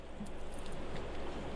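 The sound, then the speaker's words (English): A single short, mid-pitched electronic beep sounds near the end of a phone line's steady hiss and murmur, clearly louder than the background, with no one speaking. It is a listener's call-in line to a WTIC radio show. “I hear some beeping.”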